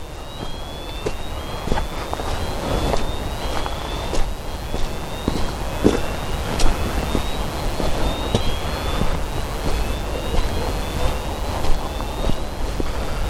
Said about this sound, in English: If you can hear that alarm, some kind of alarm going up over there. Must be like a burglar alarm or something. Doesn't sound much like a fire alarm. But you never know.